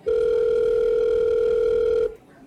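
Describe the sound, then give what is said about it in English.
A telephone ringback tone sounds once as a woman calls a friend's number on her phone: a steady, mid-pitched electronic buzz holding for about two seconds before cutting off into quiet line hiss, with no voices. “pulls out her phone and calls”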